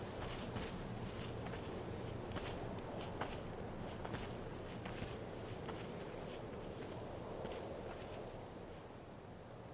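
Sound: footsteps walking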